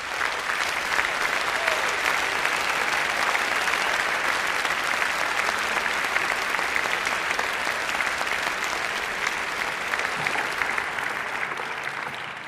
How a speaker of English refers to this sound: please stand and let's all give them a big round of applause